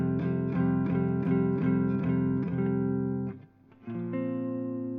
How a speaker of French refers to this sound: Donc voilà, après une petite montée, passage en distorsion, une petite montée avec des power chords. Enrichi notamment avec une neuvième.